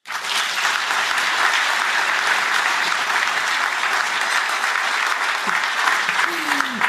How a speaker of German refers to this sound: Ich muss euch beichten, heute bin ich nicht alleine, sondern wir haben ein Publikum. Und damit man die auch einmal hört, bitte einmal klatschen.